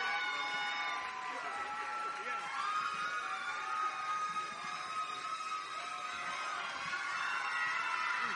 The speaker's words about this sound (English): As we bring out our final group of contestants, 51 through 60, big round of applause and make some noise for the ladies. The final group.